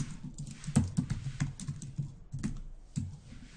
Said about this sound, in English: And let me go ahead and hit control period on my keyboard.